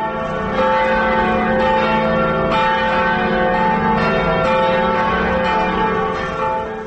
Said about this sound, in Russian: Как вы находите голос часовни кафедрального собора в центре Вильнюса? Колокола из Германии, из Кёльна. Это подарок Вильнюсу.